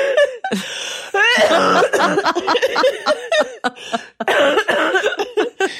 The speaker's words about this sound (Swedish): Oj, nej. Nu kommer hosta.